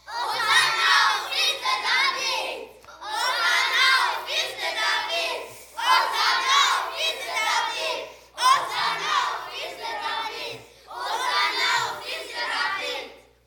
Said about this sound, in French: Là, vous allez me crier ça bien comme il faut. Hosanna au fils de David. OK? 1, 2, 3.